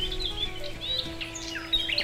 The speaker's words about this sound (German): Oh, hörst du die ganzen Vögel zwitschern?